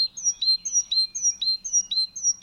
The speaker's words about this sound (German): Ja, das ist definitiv die Kohlmeise und ich finde ihr Gesang, der hört sich auch so an, als würde sie sagen: Ich bin's, ich bin's, ich bin's, ich bin's, ich bin's, ich bin's.